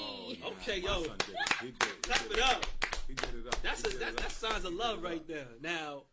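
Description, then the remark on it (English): A burst of hand clapping for someone's Valentine's Day gifts, sharp irregular claps scattered across about six seconds, mixed in with lively, overlapping voices talking throughout. “Okay, clap it up.”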